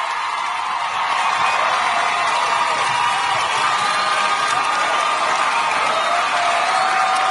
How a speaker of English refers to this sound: Big applause. Huge.